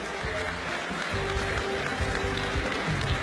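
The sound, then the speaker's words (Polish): A large crowd at a political event applauds the ten candidates from Łódź Voivodeship for the European Parliament elections, dense clapping forming a steady roar, loud and sustained throughout without any speech over it. “Proszę o ogromne brawa dla naszych kandydatów.”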